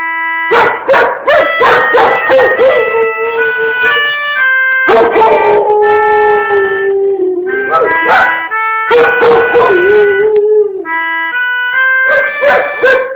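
A dog barks in loud bursts, mixed with long drawn-out whining howls that rise and fall, with the barking and howling continuing steadily and no one talking.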